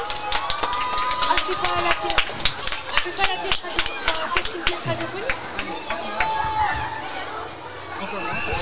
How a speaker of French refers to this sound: On les applaudit bien fort.